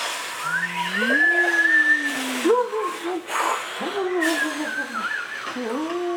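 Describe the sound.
Voices imitate wind growing stronger and stronger with long, sliding howls that rise and dip in pitch over a breathy hiss, holding a steady, fairly loud level throughout.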